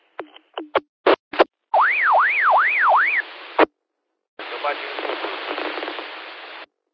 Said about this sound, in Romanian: QRZ, încă o dată nu s-a auzit indicativul. A fost acoperit de o alarmă.